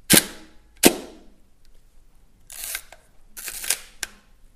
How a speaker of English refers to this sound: This is the shutter sound of a Hasselblad at 1/125th of a second.